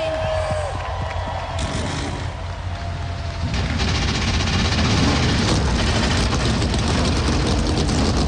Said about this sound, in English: Forty cars come to life on the pit lane, set to go at the Talladega Super Speedway.